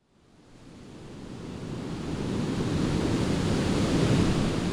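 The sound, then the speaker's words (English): Steady roar of ocean surf at Ocean Beach swelling up from near silence, a broad wash of breaking waves with gusty wind noise from a cool breeze off the surf, loud and continuous with no voices. “A cool breeze is coming off the surf.”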